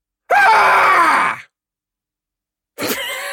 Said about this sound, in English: Let's give you another scream.